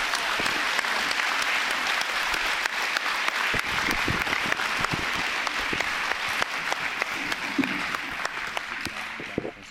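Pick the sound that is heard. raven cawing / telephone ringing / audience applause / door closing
audience applause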